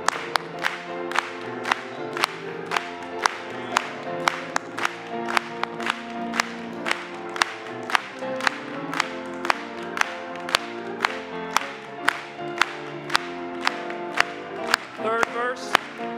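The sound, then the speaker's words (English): A group claps in a steady, even beat, about two claps per second, keeping time with a gospel song sung and played underneath, the claps loud throughout. “Let's clap it to Him.”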